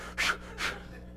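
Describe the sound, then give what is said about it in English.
A voice imitates the nervous heavy breathing of an expectant father on his way to the hospital: two quick, breathy huffs, fairly loud against a low steady hum, with no words spoken. “They start breathing while they're going to the hospital.”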